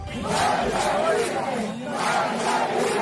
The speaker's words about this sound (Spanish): 11 de julio de 2021, San Antonio de los Baños, provincia Artemisa. Cientos de manifestantes gritan …, convertido en himno de esperanza y libertad del pueblo cubano.